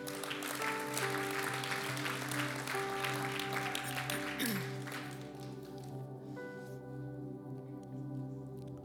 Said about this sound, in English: Amen. Awesome. Let's give God a clap for that.